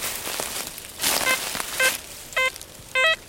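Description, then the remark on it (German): A metal detector's electronic tone, heard while searching in a forest, beeps four times over a steady crackling, rustling background, the beeps growing louder and longer while their pitch shifts, the last ones stepping up and down; its display shows a conductivity value of about 82. “So, und dann nach, ich sag mal, 100 Metern im Wald verändert sich auf einmal der Ton von einem der Sondensuchgeräte.”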